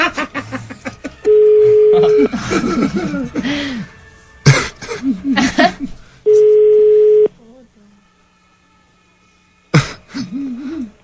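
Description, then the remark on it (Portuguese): An outgoing call's ringback tone, calling a woman's phone, sounds twice, each a steady one-second beep separated by a long pause, while people talk around it and someone clears their throat. “Se ela não me atender, e o telefone ficar tocando, fica gastando energia dela.”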